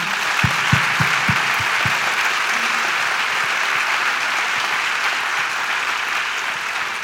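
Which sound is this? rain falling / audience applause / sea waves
audience applause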